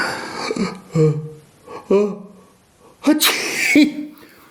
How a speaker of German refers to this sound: heiser und musste niesen.